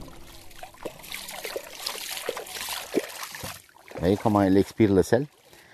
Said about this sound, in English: We're getting on a boat now and heading deep into the mangroves